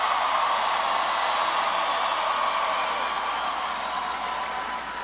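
A dense, steady wash of crowd applause for President Bill Clinton, many hands clapping together into a continuous roar that holds level for several seconds and eases only slightly at the end. No one speaks.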